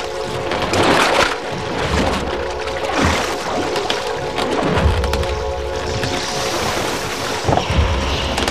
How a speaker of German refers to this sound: Ebbe zog das Boot hinaus und die flüsternde Insel schien plötzlich gefährlich nahe gerückt.